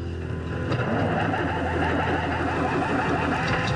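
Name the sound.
truck engine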